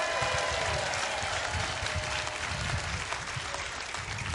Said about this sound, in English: because on a day like today, we honor somebody that's been a huge part of the history in building the foundation of the Patriots, and we'll see Raymond Claiborne later today, but we also get, you can applaud for Raymond.